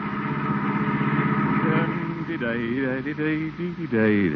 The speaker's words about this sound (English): The day's work is done, and the water commissioner is at the wheel of the family car, heading homeward.